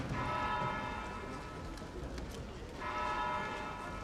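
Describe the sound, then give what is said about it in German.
A church bell tolls the ninth hour over a broad street, two resonant strokes about three seconds apart, each ringing out and slowly fading over a low, steady background rumble. “Die Glockenschläge der neunten Stunde klingen über der breiten Straße auf.”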